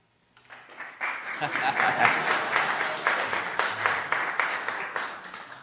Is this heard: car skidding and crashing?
no